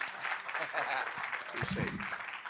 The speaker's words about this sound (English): So with that, would you put your hands together?